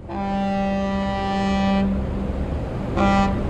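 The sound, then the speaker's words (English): A ferry's deep horn sounds one long, loud blast, pauses, then gives a short second toot, all over a steady low rumble of engine and water, as the ferry crosses the Bosphorus in Istanbul from Asia to Europe. “This is the ferry boat crossing the Bosphorus from Asia to Europe.”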